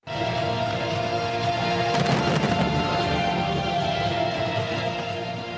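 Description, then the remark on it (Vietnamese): A dense, continuous barrage of fireworks crackling and booming together, loud, at the opening of a summit in Vladivostok, Russia, on the Pacific coast, swelling into a heavier cluster of bursts midway before carrying on at a steady roar. “Pháo hoa khai mạc hội nghị thượng đỉnh đã tắt.”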